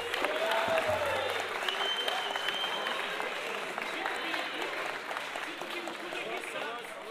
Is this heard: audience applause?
yes